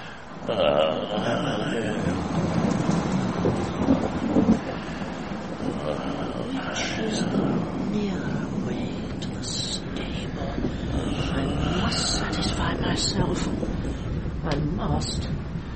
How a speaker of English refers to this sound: What a night. I never thought there was so much thunder in these small country places.